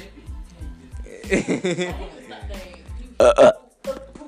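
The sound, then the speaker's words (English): A loud, drawn-out burp rumbles, followed by a few shorter belches, with a man's voice chuckling and talking around them. “Of course, y'all know who the fuck, unsanitary the fuck, over here, burping and shit on the motherfucking shit.”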